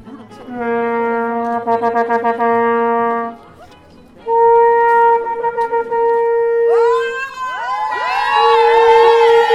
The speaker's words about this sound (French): Après une première journée de grève le 22 février, les agents de la Métropole et des antennes de solidarité des CCAS se rassemblent aujourd'hui 13 mars pour crier haut et fort leur rage face à une réforme qui n'est qu'une belle vitrine.